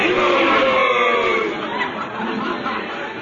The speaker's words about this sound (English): Horowitz. Horowitz, why are they all saying a boo? They're trying to scare me? Luigi, that's human nature. When men gather in a crowd, they like to see blood.